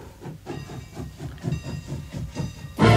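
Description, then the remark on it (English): A train rolls along with a fast, steady chugging rhythm and a faint whistle-like tone, ending in a sudden loud burst of hissing steam; no one speaks. “From all the occupied territories, trains rolled into Germany, full of stolen art treasures.”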